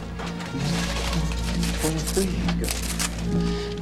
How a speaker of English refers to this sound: Walter sits in the hotel room, frantically churning out pages from an old manual typewriter.